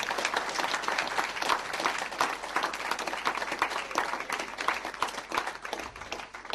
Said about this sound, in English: Somebody just give God a big clap offering. Thank you, Jesus.